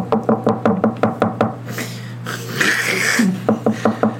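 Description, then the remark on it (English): A quick series of about eight sharp knocks on a door, then a short stretch of muffled rustling noise, followed by another burst of four rapid knocks. Fairly loud. “She's knocking on the door.”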